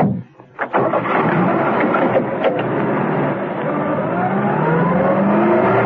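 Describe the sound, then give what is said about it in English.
A car engine catches and revs, then settles into a steady, loud drone as the Baron's car pulls away, the pitch rising gradually as it gathers speed. “Peel returned to the Baron and his car.”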